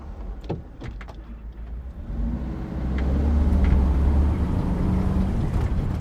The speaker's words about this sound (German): Da ich keine Flügel habe, fahre ich mit dem Bus zurück nach Zagreb. Aus den Lautsprechern tönt kroatische Volksmusik.